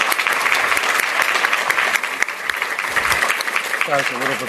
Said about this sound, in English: Please join me in giving them another round of applause.